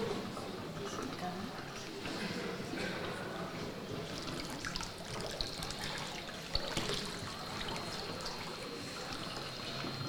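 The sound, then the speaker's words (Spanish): Water sloshes and trickles steadily for several seconds as a wife steps into the baptismal water for her baptism, a soft, continuous splashing with a few small surges and faint voices murmuring in the background. “Muy bien, pues vamos a dejar que primero la esposa entre en el agua.”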